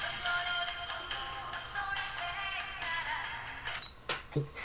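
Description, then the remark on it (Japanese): A pop song, ripped from a music CD with RIP Audico and transferred to an IC recorder used as a portable player, plays through the recorder's tiny built-in speaker, thin and tinny with almost no bass, running steadily at a modest volume with no one talking over it. “曲が、まあ、音はあんまり良くないんですけども、IC レコーダーで、携帯プレイヤーでですね、聴くことができます。”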